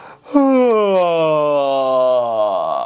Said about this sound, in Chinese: 第一步，打哈欠。没错，就是我们困了的时候打的那种哈欠啊。来，我们一起来打打看。你会发现你打哈欠的时候呢，你的声音是非常浑厚的。